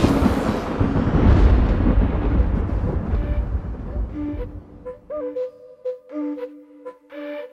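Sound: thunder rumble sound effect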